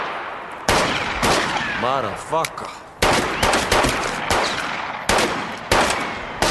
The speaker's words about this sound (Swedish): Du sa det var skottlossning.